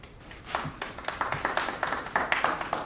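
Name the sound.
audience clapping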